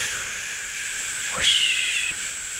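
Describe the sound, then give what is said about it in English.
A voice imitates the whoosh of wind and drone of tires against pavement of an electric car at highway speed: a steady breathy hiss that swells midway into a whooshing sweep with a thin whistling tone on top, then settles back to a constant drone. “Without real or artificial piped-in sound, most electric cars are so quiet that about the only thing to hear at highway speed is the whoosh of wind and drone of tires against pavement.”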